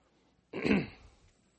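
A single throat clearing, close and fairly loud, a short rough burst that trails off quickly into quiet, with no talking around it.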